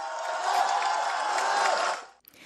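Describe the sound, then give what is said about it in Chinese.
A large crowd at a rally outside the Court of Final Appeal in Central, Hong Kong, after a protest march, claps loudly to salute friends in prison, a dense, steady burst of applause that holds for about two seconds before cutting off abruptly. “大声的拍手掌为我们狱中的朋友致敬，大声点。”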